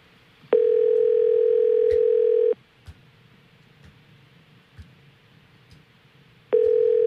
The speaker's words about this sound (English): So they have to answer. Oh, I love the sound of a ringing phone.